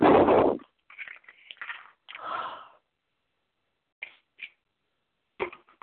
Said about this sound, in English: Okay, just getting a big yawn on that